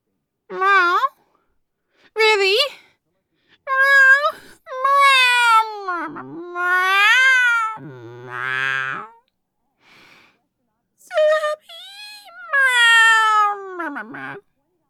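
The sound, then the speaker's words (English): A person voices a run of drawn-out, whiny cat meows, about eight in a row with short pauses, rising and falling in pitch, fairly loud with no other sounds. “It's just meow. I have a very fluffy tail and meow. Meow.”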